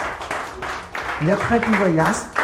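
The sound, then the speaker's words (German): Steady applause from a small group, a dense patter of clapping that holds for a couple of seconds while a voice speaks over it partway through. “Jetzt möchte ich einmal bitte einen Applaus haben, bitte.”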